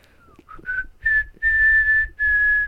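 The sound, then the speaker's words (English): A person whistles a tune during a whistling game, a few short notes leading into longer sustained tones with small pitch glides, fairly loud and clear with no talking. “Don't make me laugh, because I can't whistle and laugh at the same time.”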